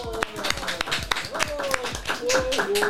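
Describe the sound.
A small group applauds with quick, irregular hand claps throughout, while voices call out and cheer over the clapping at a steady, moderate loudness.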